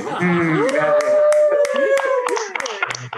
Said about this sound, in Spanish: Entonces, la neta, un aplauso, por favor.